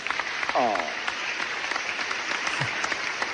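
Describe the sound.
Steady applause from a crowd, a dense continuous patter of many hands clapping at once, fairly loud throughout, with a brief cheer or voice rising through it early on.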